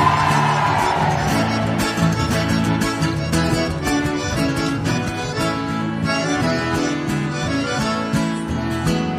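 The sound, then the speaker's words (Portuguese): A crowd of women shouts and cheers, loudest in the first second, blending into steady live music with an accordion player and a driving beat throughout. “E o grito das mulheres que manda neles!”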